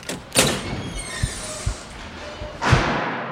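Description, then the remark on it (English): A door is rattled and tried, with several dull thumps and knocks, then swings open with a broad scraping whoosh near the end; moderately loud, no talking. “I'm gonna try to open this door.”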